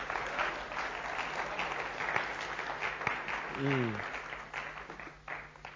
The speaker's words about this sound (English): Can we put a big round of applause? Thank you kindly.